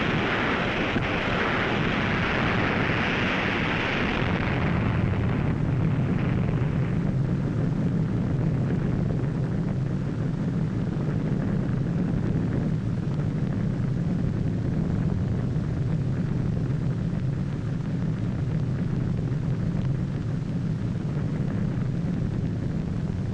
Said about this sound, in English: The next scene is a spectacular aerial view taken from directly over the blast.